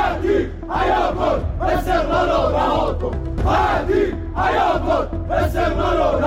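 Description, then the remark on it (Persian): A large crowd of Esteghlal football club fans, gathered in front of the club's building, chants slogans in unison against the club's management, demanding Ali Khatir's resignation. Loud rhythmic shouted phrases repeat in waves with brief dips between them, the many voices forming a dense roar. “هواداران استقلال که به شرایط مدیریتی آبیپوشان اعتراض دارند، علیه مدیریت این باشگاه شعار دادند و خواهان استعفای علی خطیر شدند.”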